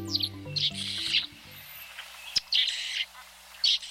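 bird song

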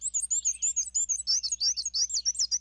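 black-and-white warbler song

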